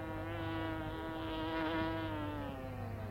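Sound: bee buzzing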